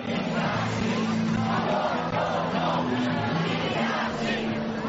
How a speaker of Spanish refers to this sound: en un ambiente festivo que solo ha sido interrumpido cuando la protesta ha llegado a la sede del Partido Popular, donde se han podido escuchar gritos, pitos y abucheos.